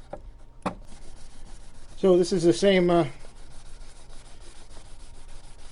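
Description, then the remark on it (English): A paper towel rubs steadily across the rosewood of an American Fender guitar, wiping away excess oil with a soft, continuous scratchy hiss. A sharp knock sounds early on, and a person speaks briefly over the rubbing. “So just put it on, it'll go on wet, and then let the wood just soak as much as it can and take the rest off with a paper towel.”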